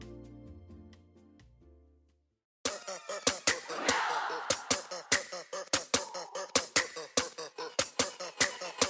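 After a short burst of music and a pause, hands clap loudly in a steady rhythm, about fifteen sharp claps, with voices chattering and laughing underneath.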